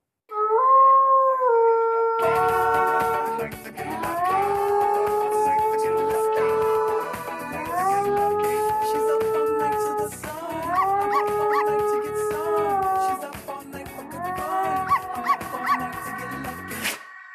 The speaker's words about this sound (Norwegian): Sånn høres lydkunst på hunder ut. Og dette har jo da din hund, eller salongens hund, Patty, hørt på